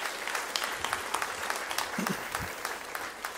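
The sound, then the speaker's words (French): A church audience at L'Épi breaks into steady applause to welcome morning visitors: a dense wash of many hands clapping at a moderate level for a few seconds, with no one speaking over it. “on pourrait souhaiter la bienvenue aux personnes qui nous visitent ce matin en les applaudissant?”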